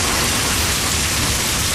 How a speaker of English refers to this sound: Yeah, and that air conditioner's going full blast, too.